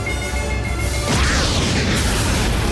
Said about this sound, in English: A fireball balloons across the ocean floor, exploding in a flash of bright white light. The spacecraft's tall tower disintegrates like a glittering tower block. Shockwaves radiate from the underwater blast.